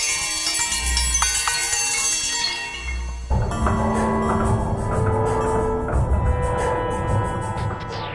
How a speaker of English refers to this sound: the sounds of the neighborhood, like the reggaeton music of the West Indies auto body shops. He kind of takes them and then filters it through some device that makes it sound like bells.